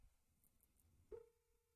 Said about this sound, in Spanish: Teléfono. Mi teléfono está sonando aquí en este episodio. Yo lo tengo conectado a una bocina.